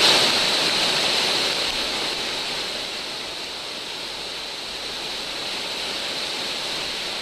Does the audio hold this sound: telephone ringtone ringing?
no